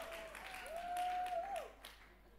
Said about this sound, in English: Sisters, I'm batting for you right here. I need some big cheering from you right now, all the married women.